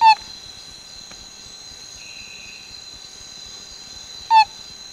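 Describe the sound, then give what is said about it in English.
A male Borneo tree frog gives two short, throaty chirps about four seconds apart, each loud, calling to attract a female, over a steady high-pitched drone of night insects. “Then, to attract a wandering female, he sends forth a throaty little chirp.”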